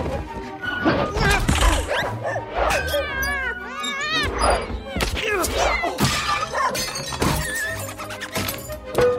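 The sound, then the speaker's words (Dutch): A dog, Bobby, barks repeatedly as it chases a cat that crept in through the window, in a chaotic scuffle mixed with the cat's yowling meows and the crash of something shattering, all loud. “Wanneer Bobby de kat ziet, begint hij meteen te blaffen en hij gaat erachterna.”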